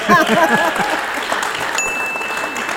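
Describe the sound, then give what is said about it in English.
A crowd claps steadily in a dense, sustained wash of applause for a guest introduced on stage, with a brief voice early on and a clear bell-like ding from the hosts' dinger ringing out partway through. “Applause.”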